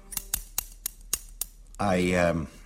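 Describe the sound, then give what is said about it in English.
A series of about six crisp snips from a pair of scissors cutting a piece of paper into a paper man, spaced unevenly over a second and a half, followed by a short voiced sound from a person. “I got a pair of scissors here, as you can hear.”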